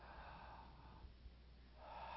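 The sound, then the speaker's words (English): A group of people at an evening sermon draws in a long, deep breath together at the preacher's request, a soft broad rush of air that swells, fades briefly, then rises again as the inhale continues, with no talking. “Take a deep breath.”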